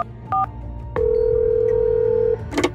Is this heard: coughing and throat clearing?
no